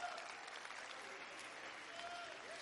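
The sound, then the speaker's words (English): An audience claps hands in praise to God, a steady, dense wash of applause lasting a few seconds, with faint vocal exclamations rising briefly over the clapping. “Oh, if you're thankful to worship Him, would you just clap your hands and give Him a moment of your praise?”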